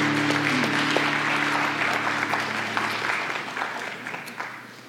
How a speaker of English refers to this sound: I know it's really not for the worship team, but just a great, I think, just to give glory to God and for their leadership. Let's just one round of applause.